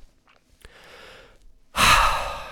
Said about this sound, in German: Ruhig einmal oder auch zweimal tief durchatmen. Reduziert deinen Stress, erhöht den Sauerstoffgehalt, verbessert dein Denkvermögen und macht es dir sehr viel leichter, mit dem Stress umzugehen.